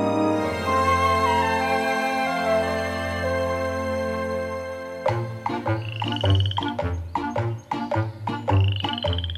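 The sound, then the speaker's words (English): Two frogs croak loudly, first a long droning call, then a quick series of sharp, rhythmic croaks overlapping one another, with no voices present. “Two frogs.”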